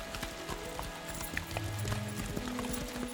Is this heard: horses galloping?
yes